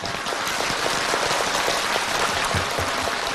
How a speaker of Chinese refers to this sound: 对，鼓掌。